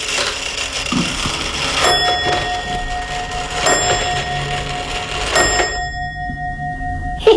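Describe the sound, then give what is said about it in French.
An old Swiss pendulum clock chimes alone, with three bright, ringing strikes spaced about two seconds apart. Each metallic tone lingers and hums before the last one slowly fades away. “C'est suisse, c'est la pendule suisse, elle est vieille comme tout.”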